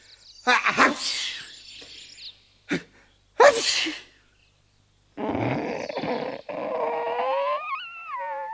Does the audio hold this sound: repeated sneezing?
yes